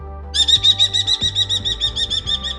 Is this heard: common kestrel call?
yes